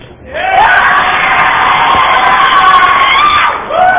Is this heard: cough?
no